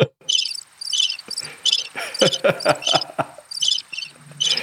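insect, crickets chirping

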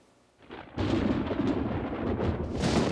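nature, thunder

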